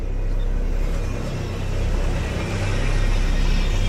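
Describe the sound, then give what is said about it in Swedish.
A bus's heavy engine rumbles steadily with a deep, continuous drone, swelling slightly louder toward the end as it approaches Vårväderstorget square in Biskopsgården. No voices are heard. “En buss närmar sig Vårväderstorget.”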